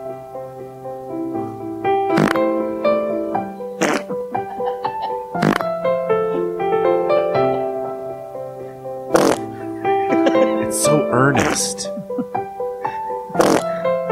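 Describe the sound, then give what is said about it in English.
Recorded farts arranged into a song, made by a man farting into a microphone held to his butt, with buzzy pitched notes stepping through a melody and sharp percussive pops punctuating the tune, loud, with a brief voice over the music. “In the note that he sent over, he said that is really him farting. He put a microphone up to really? His butthole and farted into the.”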